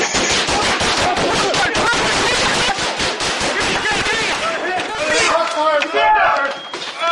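Loud, rapid bursts of gunfire crackle almost continuously, many shots overlapping in quick irregular volleys, while people shout over the shooting, especially toward the end.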